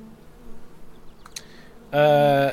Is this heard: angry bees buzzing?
yes